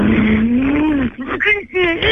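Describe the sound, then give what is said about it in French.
A voice mimics a Formula 1 racing car engine with its mouth, a long rising buzzing drone followed by a few shorter revving bursts that climb in pitch, loud. “tu vas me faire un petit peu le bruit de la Formule 1 avec ta bouche”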